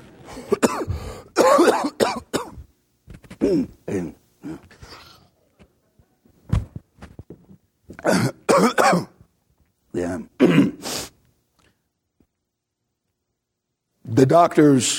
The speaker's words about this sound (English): The doctors said the throat cough would go away in a few weeks. That was in 1858.